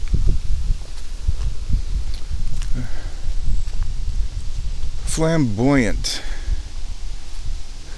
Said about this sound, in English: Here comes the wind. Now let's just power through it.